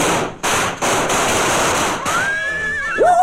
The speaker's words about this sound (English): I tell you, when those firecrackers went off, they nearly frightened my poor broom right out of the story.